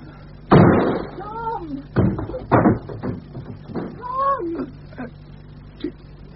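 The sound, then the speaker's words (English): A door is smashed open with a loud crash, followed by a few more heavy thuds, while wavering, wailing vocal cries rise and fall between the impacts. “A door smashed open with a fist.”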